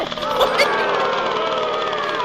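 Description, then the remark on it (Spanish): The engine of an old Ford Escort, its body covered in advertising, is started cold: a loud, harsh, rattling roar that holds steady, its pitch wavering slightly throughout, with voices faintly beneath it. “Mira cómo suena ese motor.”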